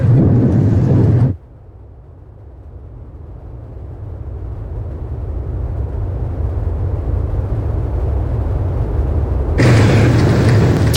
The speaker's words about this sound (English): The normally safe tourist resorts of Dubai and Abu Dhabi are among those feeling the effects, with both cities' airports damaged. Loud booms have been heard over Dubai this morning.